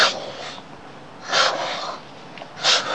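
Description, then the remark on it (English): A pump wheezes in a steady rhythm, three airy, breath-like whooshes roughly every second and a half, fairly loud with no talking. “She's breathing. This pump is breathing.”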